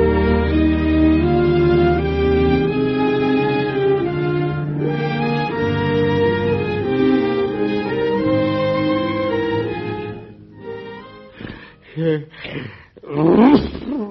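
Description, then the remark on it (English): In the ABC radio drama Mr. President with Edward Arnold, sustained orchestral music plays for about ten seconds, then stops, followed by a quick series of four or five loud, abrupt sneezes from several voices, the last one the strongest. “Do you suppose we could all sneeze in unison?”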